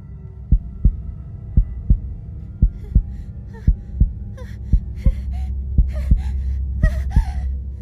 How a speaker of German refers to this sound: Lillys eigener Herzschlag und ihr heftiges Atmen hallen laut im Inneren ihres Kopfes wieder. Sie hört das Rauschen des Blutes, das mit hoher Geschwindigkeit durch ihre Venen schießt und ein schrilles Klingeln in den Ohren.